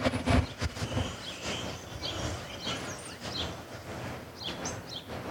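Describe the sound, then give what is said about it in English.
Scattered high bird chirps and short song phrases come through outdoors, fairly faint and partly buried under steady wind and street rumble, with a few clearer calls near the end. “Can you hear the birds?”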